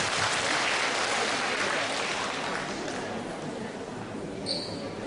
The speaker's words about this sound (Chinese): 让我们再次用掌声感谢卢军宏台长为我们看图腾。